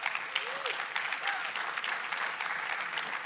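An audience applauds, a dense, steady wash of many hands clapping that holds at an even level throughout, with a couple of short vocal whoops rising over it.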